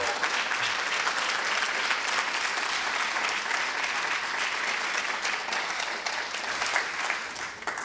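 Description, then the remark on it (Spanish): Sustained applause from a concert audience after the third movement of Francis Poulenc's Sonata for clarinet and piano, a dense, steady wash of many hands clapping at an even loudness for the whole stretch, with no voices standing out. “Parece que nuestros aplausos siguen alcanzando.”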